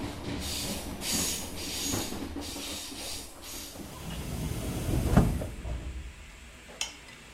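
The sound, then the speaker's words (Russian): An electric commuter train (elektrichka), boarded at Bylyksa station, rolls along the rails with a steady low rumble and airy hiss, broken by rhythmic clatters, a heavier thump partway through and a sharp clack near the end. “Мы садимся на электричку и двигаемся дальше по следу золотарей.”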